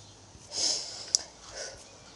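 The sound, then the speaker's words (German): Two breathy snorting sniffs through the nose, the first longer and stronger, separated by a sharp little click; quiet and airy, with no talking. “Was schnaufst du?”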